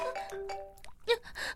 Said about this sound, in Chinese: 我的手机一直在响。